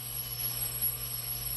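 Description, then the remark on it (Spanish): A telephone rings with a steady, continuous electronic trill that holds without pause for the whole moment, fairly soft, with no voices. “¡Ay, ese teléfono!”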